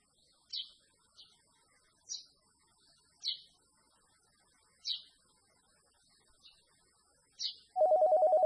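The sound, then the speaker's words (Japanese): A telephone bursts into a loud, rapidly pulsing electronic ring near the end, after several short, high-pitched chirps spaced irregularly over an otherwise quiet background. “小松さんちゅう人から電話ばい。”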